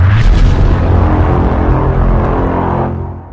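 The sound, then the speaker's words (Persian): A loud, deep bomb explosion, the Ashura 1373 bombing in the courtyard of the Imam Reza shrine in Mashhad during mourning, which wounded hundreds of pilgrims and killed 26, roars and rumbles heavily for a few seconds, a dense low boom that slowly fades out, with no voices present. “در عاشورای سال 1373، در حالی که مردم در صحن حرم مطهر رضوی مشغول عزاداری بودند، انفجار یک بمب صدها نفر از زائران را مجروح کرد و 26 نفر را به شهادت رساند.”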